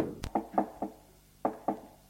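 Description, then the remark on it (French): Knocking on a door: a quick series of three solid raps, a short pause, then two more, crisp with no voices. “L'on frappe à la porte.”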